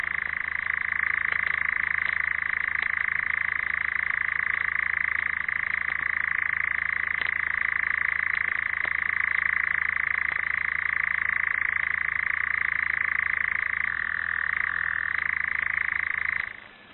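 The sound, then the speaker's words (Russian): A nightjar's churring night song at dusk: a steady, unbroken mechanical trill at a middling-high pitch, holding loud and even for about sixteen seconds, with a slight shift in tone near the end before it stops. “Затянул свою ночную песню Казадой.”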